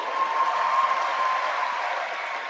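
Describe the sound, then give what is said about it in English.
A crowd applauds steadily for Winston Churchill, a dense wash of clapping that holds at an even, fairly loud level with no voices standing out. “Churchill deserves a round of applause.”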